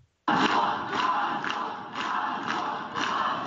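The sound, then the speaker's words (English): A crowd gathered outside the jail where Siarhei Tsikhanouski, husband of presidential candidate Sviatlana Tsikhanouskaya, is held shouts and chants together, a loud, continuous roar with rhythmic surges roughly every half second, starting abruptly after a brief silence. “A crowd of people today gathered outside the jail while Sahare Tsikhanouskyi is being held.”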